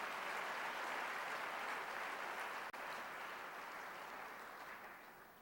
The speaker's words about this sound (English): Can we give ourselves a round of applause for being such a good audience?